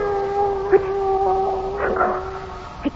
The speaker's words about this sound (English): A cat. The soul of Thur. Osiris has sent the soul of Thur and turned it into a cat.